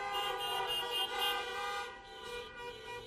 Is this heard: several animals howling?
no